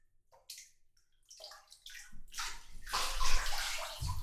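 Bath water sloshes and splashes in a few separate bursts, then builds into a fuller, continuous wash of moving water as a body rises out of the tub, with a heavy low splash at the end.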